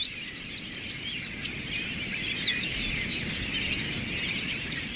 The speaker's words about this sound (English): Have you ever had a mob of birds descend on your yard in midwinter? A passing flock of robins suddenly drops out of the sky. A moment ago, the yard was empty of birds, but now it's full.